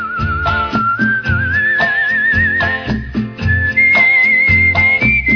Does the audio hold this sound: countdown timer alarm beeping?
no